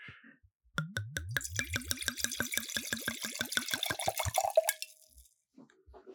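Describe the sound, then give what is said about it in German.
Red wine, a 2020 Primitivo di Manduria, glugs from a bottle into a glass, a quick steady run of gurgles rising in pitch for about four seconds before stopping, with no talking. “Und ich würde sagen, wir schenken einfach ein, oder?”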